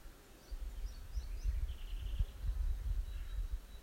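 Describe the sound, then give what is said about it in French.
Faint birds chirp and trill in short repeated bursts over a low, steady outdoor rumble, with no one speaking. “Restez avec votre attention dans le chant des oiseaux.”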